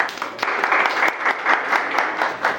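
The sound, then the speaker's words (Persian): A seminar audience applauds themselves steadily, a dense wash of many hands clapping at moderate loudness with slight rhythmic swells, lasting a few seconds without talk. “خواهش می‌کنم خودتون رو تشویق کنید.”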